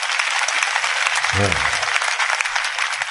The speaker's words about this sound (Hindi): ताली बजाओ